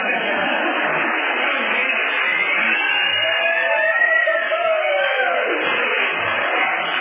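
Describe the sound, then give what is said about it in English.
An audience at an AA group meeting applauds and cheers without letup, a dense, steady roar of clapping and voices with rising whoops and yells cutting through the middle of it. “That is not nearly enough applause.”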